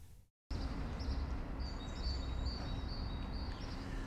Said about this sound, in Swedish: Fågelkvitter får inleda den här vår vandring längs Götgatan